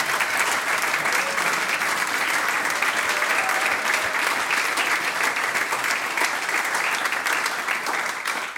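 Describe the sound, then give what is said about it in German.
Sustained audience applause for the mixed choir of Bad Leupersdorf, a dense steady patter of many hands clapping at an even loudness for several seconds, with no voices standing out. “Der erste Applaus gilt dem gemischten Chor Bad Leupersdorf.”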